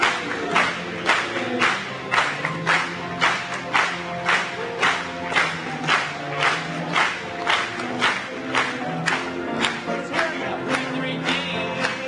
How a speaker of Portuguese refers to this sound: Batamos palmas para ele mais uma vez.